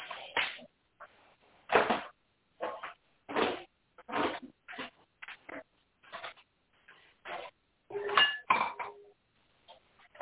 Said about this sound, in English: Someone's putting away dishes. I hope your dinner was good.